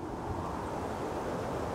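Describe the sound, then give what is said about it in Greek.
Wind blowing through plane trees in Ioannina, Greece, a steady, soft rushing hiss that holds evenly throughout, fairly quiet, with no voices or other distinct sounds. “Ο άνεμος σφυρίζει ανάμεσα στα πλατάνια.”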